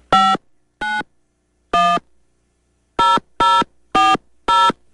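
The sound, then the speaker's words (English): Seven short, bright beeps from telephone keypad buttons, pressed in an uneven rhythm: a few spaced-out tones, then a quicker run of four at the end. No one speaks. “Are you pushing buttons?”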